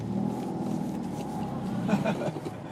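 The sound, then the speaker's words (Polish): A car engine hums steadily at a low rumble as the vehicle moves slowly, turning around on Kościelna Street, with a brief murmur of voices rising over it near the end. “Wszystko możliwe, ten samochód.”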